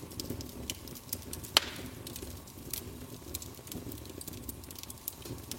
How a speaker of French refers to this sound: Alors prends aussi le temps de te laisser guider par les flammes dansantes et le doux crépitement.